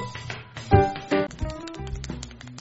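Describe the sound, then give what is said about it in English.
Quick, sharp clicks of a pen being pressed over and over, irregular and fast, with a couple of louder knocks early on, as someone tries to set a record for the most pen clicks in one second. No one speaks. “stop clicking that pin.”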